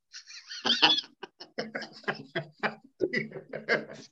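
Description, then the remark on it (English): A person imitates the chicken from Family Guy, clucking with a rapid series of short, choppy vocal bursts, fairly loud, with a brief squawk near the start. “the chicken from Family Guy.”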